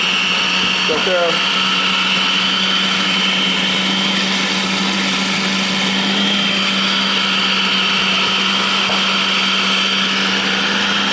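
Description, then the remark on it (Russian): An electric food grinder runs steadily the whole time as food cut lengthwise is fed through its opening, a loud, even motor whine with a low hum underneath, and a brief voice cuts in near the start. “Да, чтобы в машинку пролезло.”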